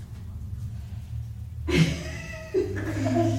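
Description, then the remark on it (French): After a quiet stretch of low hum, a child's voice imitates a cat in a game of making their animal's sound when their head is pressed, letting out two drawn-out, wavering meows in close succession, fairly loud. “Alors, ok, quand j'appuie sur votre tête, vous faites le bruit de votre animal.”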